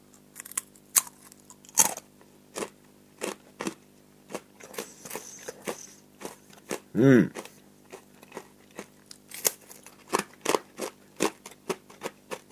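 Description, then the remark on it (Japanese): Crisp crunching of thin sweet potato chips, made only from Anno sweet potato from Tanegashima and vegetable oil, being chewed. A steady series of sharp brittle cracks runs over several seconds, with a brief hummed voice in the middle. “聞こえますかね、バリバリしてるの。”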